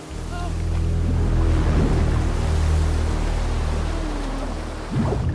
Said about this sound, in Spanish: Se lanza al agua y al momento se agarra a otra roca. Se agazapa a ella con dolor, pero una ola lo tira.